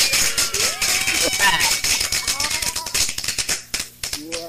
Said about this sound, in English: Okay, let me give you the clap for that, man, because we love to hear stuff like that, man, and we want to celebrate, though. Let me give you a clap.